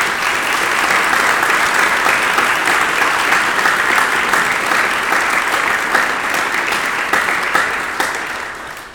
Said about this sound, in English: Thank you all once again. Would you join me in a round of applause for them?